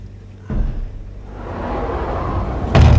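A heavy door slams shut, trapping people inside a place far below 0 degrees, with a loud, deep thud near the end, after a softer bump at the start and a steady rumbling background.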